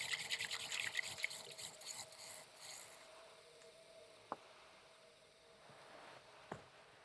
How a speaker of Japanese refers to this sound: 馴染んできましたら、茶筅を縦に動かして泡を立てていき、最後に茶筅を真ん中から持ち上げて、泡が盛り上がりましたら完成です。